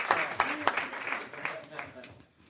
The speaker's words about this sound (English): Does that get a round of applause? Good job.